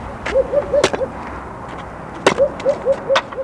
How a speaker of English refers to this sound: One man chops logs down to kindling to feed the oil drum stove.